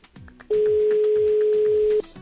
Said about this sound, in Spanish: Qué tensión, me encanta cuando suena un teléfono en directo.